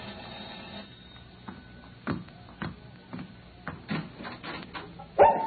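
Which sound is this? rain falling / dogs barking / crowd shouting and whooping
dogs barking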